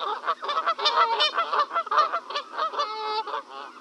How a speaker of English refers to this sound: And there are a lot of wild geese in the Netherlands. They were actually asked to come here when the Oostvaardersplassen, which is a nature reserve, was made, because they were seen as, they were even described as architectures of that nature reserve